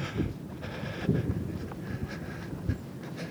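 Strong wind roars steadily over the seafront promenade of Dunkirk, in front of the grand hotel and the closed bistros, a heavy low rumble with a hissing wash on top and a few sharper gusts buffeting through. No voices are heard.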